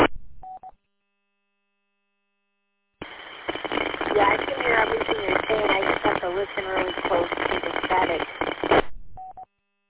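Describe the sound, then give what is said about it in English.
A narrowband radio transmission with a steady hiss of static and crackle under a garbled voice, opened and closed by short electronic beeps, with silence between the first beep and the signal. “Really close to the static.”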